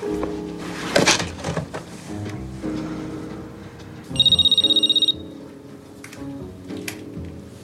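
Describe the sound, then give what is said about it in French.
A telephone bell rings in a single short, rapid trilling burst lasting about a second, bright and fairly loud above a murky background of other sounds. “Excuse-moi, je prends le téléphone”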